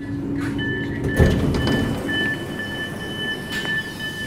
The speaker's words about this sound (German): Ich steige aus der S-Bahn. Vom Hamburger Hauptbahnhof bin ich gerade mal 12 Minuten gefahren. Jetzt bin ich in einem ruhigen Wohnviertel am Stadtrand.